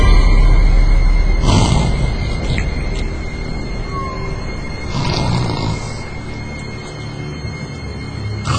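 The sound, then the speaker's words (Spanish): A father's loud, rasping snores repeat in a slow rhythm on a night of rain and lightning, three deep rattling breaths spaced a few seconds apart, with a low rumbling hiss between them and no voices. “Empecé a escuchar los ronquidos de mi padre.”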